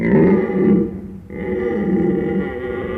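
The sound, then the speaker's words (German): A moose gives deep, rough, loud grunting calls in two sustained bursts separated by a short pause, with no voices around. “Der Elch gilt als König der nordischen Wälder und Liebling von vielen, die in Schweden Urlaub machen.”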